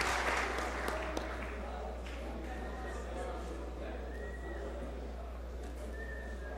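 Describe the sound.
An audience applauds steadily throughout, a dense, even patter of many hands clapping, with a few short, high whistles cutting through now and then and faint voices mixed in.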